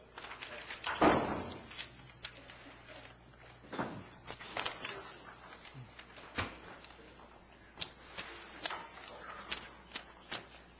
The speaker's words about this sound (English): We're opening up the door. We'll check the lobby to see if anybody's here